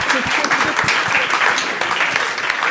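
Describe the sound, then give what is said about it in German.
An audience claps steadily and densely, a sustained wash of many hands filling the whole stretch at an even, fairly loud level with no talking over it. “Vielleicht können wir ein paar Weile mal mit einem Applaus da kurz ein bisschen helfen und ihm ein gutes Gefühl geben.”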